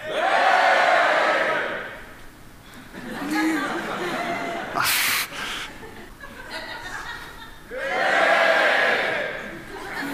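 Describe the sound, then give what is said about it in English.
An audience group shouts together in a loud burst on a count of three during a science demonstration about locating sounds, then chatters and laughs before a second big group shout of "Hooray!" rises near the end, with a brief sharp clap-like noise in between. “Okay, how about if everyone over there shouts?”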